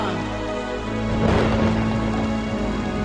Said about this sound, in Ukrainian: Я не чекав, що піде злива.